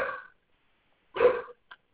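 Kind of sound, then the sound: animal, dogs making noise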